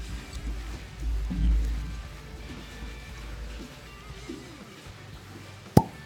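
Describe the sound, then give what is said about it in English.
A single sharp cork pop bursts out loudly near the end, after several seconds of low rumbling and faint handling noise while a bottle of 35% alcohol liqueur is worked open. “You know, sometimes it just takes a little longer to pop the cork than it does others. But it was a good, really good cork pop.”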